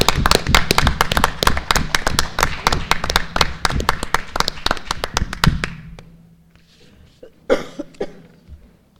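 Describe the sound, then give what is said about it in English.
A crowd applauds a math department staff member called up to the front, with dense, rapid clapping and a cheer, loud for about five seconds before fading out, followed by scattered murmurs and a brief burst of noise. “Do we get to clap now?”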